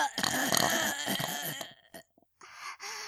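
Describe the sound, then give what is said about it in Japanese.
A long, loud, deliberately forced burp rumbles for over a second, then after a brief silent pause a second, shorter belch follows. No talking. “旦那様のおちんかす、ごちそうさまの感謝のゲップ、いきますわ。”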